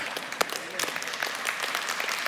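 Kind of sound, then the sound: crowd, clapping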